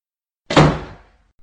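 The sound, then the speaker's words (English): A single door shuts with a solid thud that rings out briefly and fades, with no voices present. “Well, if you're going to be raising your voice, you should probably close the door.”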